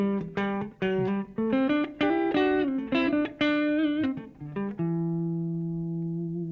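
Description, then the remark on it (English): Electric guitar played through the Deluxe Reverb amp from Onammer, slot A: a lively run of picked notes and chord stabs, then one held chord that rings out and slowly fades. No one speaks. “So here's the Deluxe Reverb from Onammer.”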